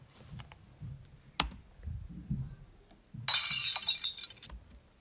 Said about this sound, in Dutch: Oh, sorry. Ik haal een handdoek. Dom van me om dat glas om te stoten.